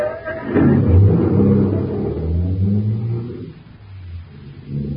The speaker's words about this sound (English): Start the car, Blake.